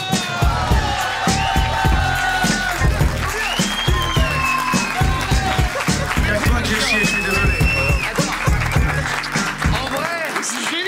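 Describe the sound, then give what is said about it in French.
A crowd fills the space with steady clapping and cheering, dense and continuous throughout, with whistles and voices mixed into the din. “On va réapplaudir Kin Velay qui vient de faire”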